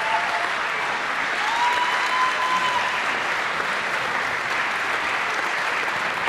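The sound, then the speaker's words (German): Sustained applause from a large audience, a dense, steady wash of clapping at constant loudness throughout, with a faint whistle-like tone briefly rising above it. “Jetzt sind wir ja gerade so schön dabei beim Klatschen.”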